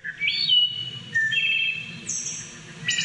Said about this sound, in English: The song of the wood thrush is sung in the dim light of the early morning and in twilight's quiet hours. Its sweet beauty evokes feelings about the purity and peacefulness of wild, untrammeled nature.